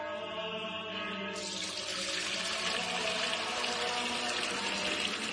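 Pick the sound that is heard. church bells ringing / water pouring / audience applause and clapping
water pouring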